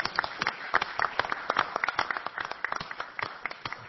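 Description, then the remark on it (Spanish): A crowd applauding: dense, steady clapping with many overlapping sharp claps, moderately loud and sustained for about four seconds without pause. “El saludo puede ser una felicitación y puede ser con un aplauso, ¿por qué no?”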